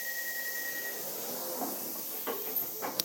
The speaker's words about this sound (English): Ah, the doors are closing. No, they're not. It's another train. Ah, buzz on now.